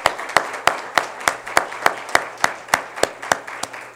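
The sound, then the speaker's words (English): An audience claps in steady unison as a clap of praise at the close of a church service, sharp rhythmic claps about three per second over a faint background murmur and low hum, with no one speaking. “Clap of praise.”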